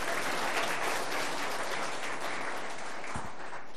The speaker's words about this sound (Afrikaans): Baie mooi, geef hom aan een klap, vriende.